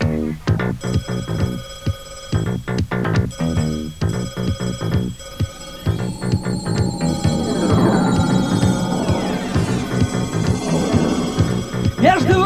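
A long-distance telephone bell rings in several short, repeated bursts at a call office where a caller is sent to booth seven for a call to Moscow, fairly loud, before layered music swells in and continues underneath.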